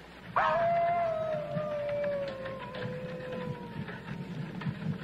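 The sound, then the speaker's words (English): A wolf lets out one long, drawn-out howl that starts on a sharp rise, then slowly falls in pitch for several seconds over a steady low rumbling background. “Werewolf. Werewolf? There. What? There, wolf.”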